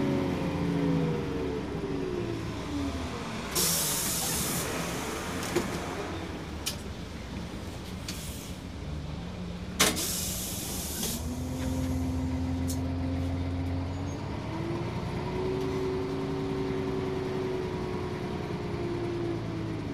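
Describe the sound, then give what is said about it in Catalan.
A number 66 city bus in Barcelona rumbles, its engine note dropping as it slows at a stop, with two loud hissing air-brake bursts, then the engine whines and rises again as it idles and moves off. “Mira, ara en ve un. És el nostre? Sí, és el 66, sí.”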